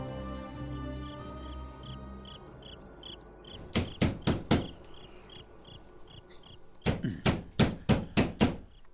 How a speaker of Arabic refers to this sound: من الطارق؟ ضيف يريد العلامة.